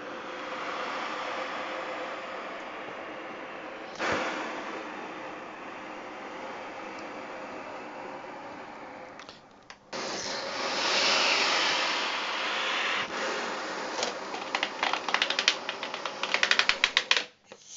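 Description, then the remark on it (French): Breathy, hissing air rushes from accordion bellows played to imitate the wind and the sea, swelling and fading, then turns louder and busier with a rapid patter of clicking buttons near the end. No one speaks. “Et avec ce soufflet, on peut faire des tas de choses. Le vent, la mer.”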